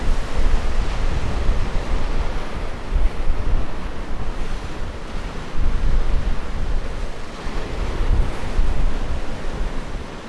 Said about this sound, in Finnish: kyttää näitä kovia etelä-lounaisia myrskyjä, jolloin tuossa eteläkärjessä on valtavat aallot. Ja he on monta kertaa sanonut mullekin, että ei missään muualla Suomessa ole niin hienoa surffakota täällä. Että näin isoja aaltoja ei ole missään muualla.